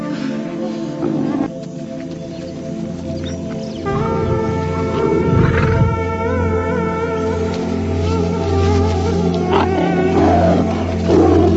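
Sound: lion roaring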